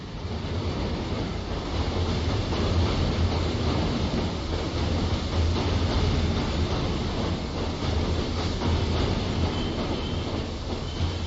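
A train rumbles steadily as it brakes to a stop on arriving at the station in A Coruña, with loud, continuous wheel and carriage noise and a faint squeal of wheels on rails as it slows, with no voices.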